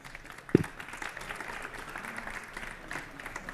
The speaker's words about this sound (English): So good luck. Thank you very much. And have some applause, please.